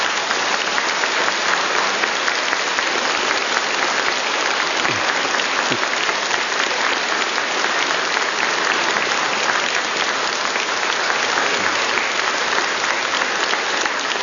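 Steady, dense applause from a large audience fills the whole stretch, loud and sustained without pause, with no one speaking over it; the applause is for a priest's name day, which falls on June 24.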